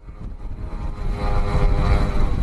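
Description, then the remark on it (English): A steady, droning engine buzz of Russian attack drones swarming over Kyiv, Ukraine, like a small propeller aircraft overhead, swelling gradually louder over a couple of seconds with a harsh, continuous whine and no voices. “When Russian drones swarm over Kyiv, the sound is unmistakable, and it's nerve-wracking.”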